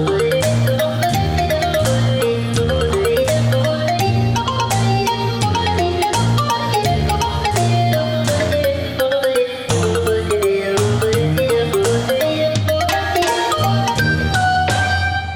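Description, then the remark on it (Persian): A mobile phone ringtone plays a loud, continuous electronic melody over a steady beat and bass, repeating for about fifteen seconds with no one speaking. “بیا بیگه بکش موبایل”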